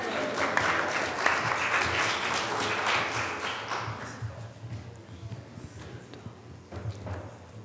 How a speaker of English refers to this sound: applause for that.